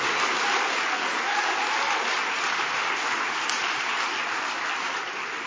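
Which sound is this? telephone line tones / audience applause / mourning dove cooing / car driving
audience applause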